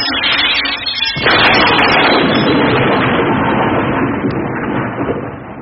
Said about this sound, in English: Well, don't look now, but I think your hobby shop was just struck by lightning. And for the second time.